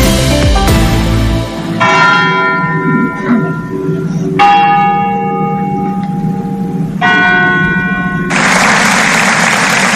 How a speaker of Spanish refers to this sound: Son las campanas de la Basílica Arciprestal de Morella y los aplausos al final del desgarrador minuto de silencio por la muerte esta noche de dos personas, un hombre de 44 años y una niña de solo 12, esta noche en un accidente de tráfico